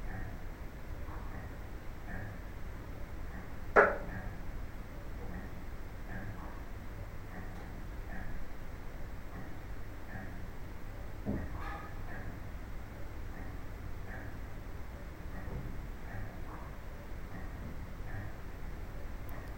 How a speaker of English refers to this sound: So what you can hear there is the clock ticking in the background, and also what seems to be some knocks.